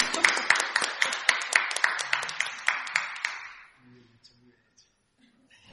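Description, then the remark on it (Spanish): A few seconds of audience applause at the end of a talk at Navacón, sharp claps in a quick, fairly steady rhythm, then it dies away into near silence with a few faint murmurs. “Bueno, te voy a dar un aplauso.”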